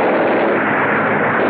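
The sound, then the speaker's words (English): A biplane engine roars loudly as the plane, flown by John Cabal in pursuit and firing at another plane, swoops closer; a dense, steady droning buzz that fills the whole moment without letup and without any voices. “He swoops closer”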